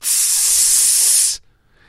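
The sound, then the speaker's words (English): A shower, just turned on with a roughly 65-35 hot to cold mix, sprays in a steady, bright hiss of rushing water for over a second, then cuts off abruptly into near silence. “in this shower, I had the choice”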